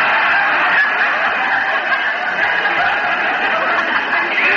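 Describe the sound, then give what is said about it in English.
Loud, continuous turkey gobbling, a dense burbling chatter of fowl that runs steadily through the whole stretch with no pauses and no voices. “would you like to buy a turkey? Cheap.”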